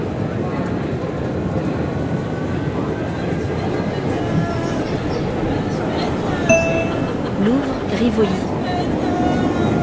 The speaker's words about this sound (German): Ja, dann sind wir in diese Schnelluntergrund-S-Bahn eingestiegen und das ist echt voll, also das ist unangenehm. Halt Metropole.